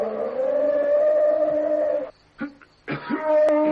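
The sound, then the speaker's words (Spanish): A person imitates a panther's roar with a long, sustained, mid-pitched voiced cry, then a short pause broken by brief bursts, and a second drawn-out howl at the end. “Está imitando las panteras.”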